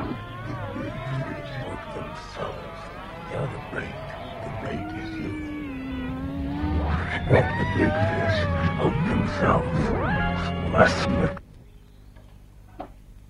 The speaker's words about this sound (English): It's not even good music. It's literally just, like, guitars screaming and right, a guy talking backwards.